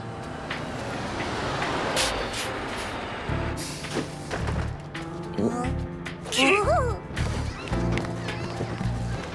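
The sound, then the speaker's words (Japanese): A bus on the Dosukebe Land Line 1 rumbles in, its engine droning under a few dull knocks, then a short high squeal of brakes as it comes to a stop, with faint voices in the background. “このバスはドスケベランド一系、全車内痴漢 OK です。”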